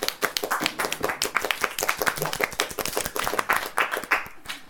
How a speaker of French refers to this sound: On peut l'applaudir.